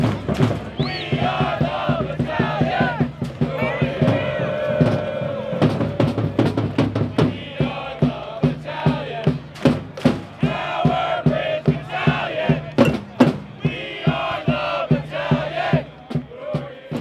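A stadium crowd of football supporters chants together before the match over steady, pounding drum beats from drum lines, with blaring horn tones running through the loud, dense roar for the whole stretch.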